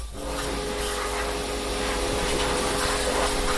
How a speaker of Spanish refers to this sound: Es el de varios trabajadores limpiando cajas. No hacen nada más porque es lo único que pueden hacer.